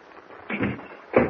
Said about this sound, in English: Help me inside. Close the door. Bolt it.